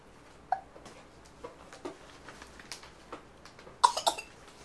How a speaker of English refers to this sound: Oh, somebody got the hiccup.